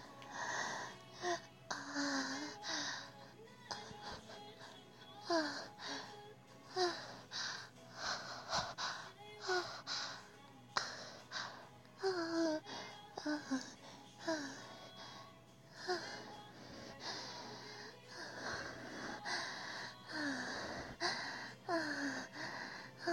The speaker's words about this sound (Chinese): 把玩具开到最大档，娇喘半分钟。 好，听好了，半分钟。